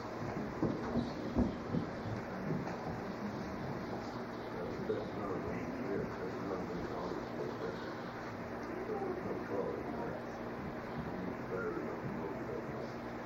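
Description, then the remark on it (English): Battery-powered mine train cars, pulled by a battery-powered motor with no trolley, roll along rails with a steady, continuous rumble and clatter, a low motor hum running underneath, consistent in loudness throughout. “We just use the battery power train and that battery powered motor.”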